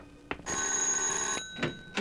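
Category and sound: household object, doorbell ringing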